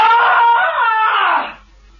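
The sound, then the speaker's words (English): A woman lets out a single loud, shrill scream held for about a second and a half, piercing, its pitch sagging slightly before it cuts off into near silence. “Okay. I'll give you a real blood curdler.”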